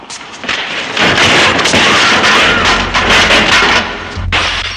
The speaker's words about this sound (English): A ragged arm smashes through one of the study windows.